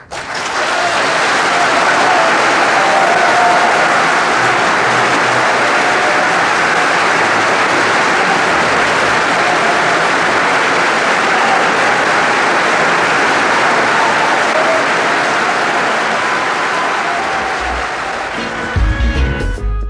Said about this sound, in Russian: Замечательные аплодисменты. Кажется, публика не ожидала такого выхода, не ожидала такого выступления.